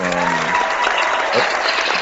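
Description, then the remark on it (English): A short burst of applause for the comic The Totally Awesome Hulk, number 1: dense steady clapping at an even, fairly loud level, with a faint tonal hum at the start and no voices over it. “I clap because it's totally awesome.”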